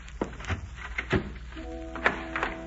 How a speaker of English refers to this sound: Sorry, but I'll have to lock your door.